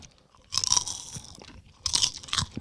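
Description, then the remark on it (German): Two bursts of crisp crunching as a light snack from a 70-gram bag (510 calories per 100 grams) is chewed, each lasting under a second with a short pause between. The crackly chewing is moderately loud, and no one speaks. “Wenn die etwas mehr knistern würden noch, dann wäre das eine echt coole Sache.”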